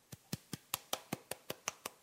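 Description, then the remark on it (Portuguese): A single pair of hands claps about ten times in a steady, quick rhythm, each clap a sharp, thin smack, fairly quiet and unenthusiastic, with no voices. “É, pô, a pior salva de palmas que eu já ouvi, né, cara?”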